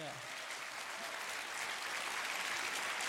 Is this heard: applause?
yes